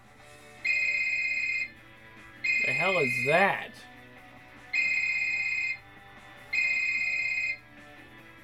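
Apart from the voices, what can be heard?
telephone ringing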